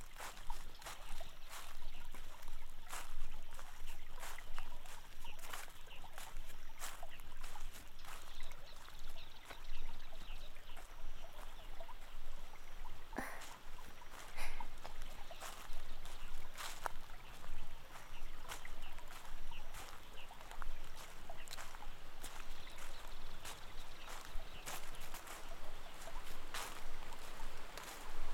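Steady rushing water pours continuously from a waterfall in a forest, with a cave behind it, making a constant hiss and splashy crackle that never lets up. It is fairly loud, with no voices.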